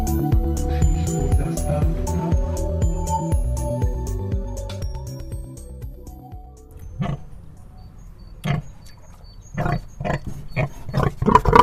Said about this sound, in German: Das Schwein grunzt noch ahnungslos in seinem Holzkäfig auf dem Anhänger dahin.